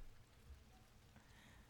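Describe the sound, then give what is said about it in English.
Steady, soft rain falling, a quiet continuous hiss of drops with no voices and no distinct individual splashes standing out. “I mean, you hate driving in the rain anyway.”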